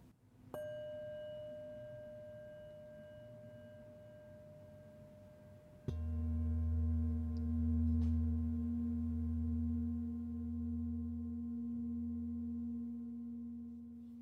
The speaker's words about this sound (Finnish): Ja merkkinä siitä, että äänimäärä rentoutus alkaa, me soitan sulle tällaista kirkas äänistä maljaa. Ja tämä sama ääni on merkkinä sitten siitä, että äänimäärä rentoutus on päättynyt. Eli ympyrä sulkeutuu. Annan sulle nyt tämän kauniin äänen.